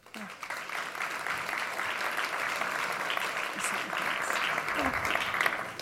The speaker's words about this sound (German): Begrüßt mit einem herzlichen Applaus Katharina Nokun.